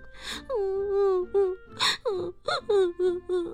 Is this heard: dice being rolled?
no